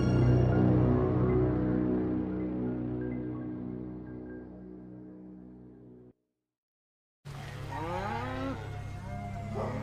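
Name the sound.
cow mooing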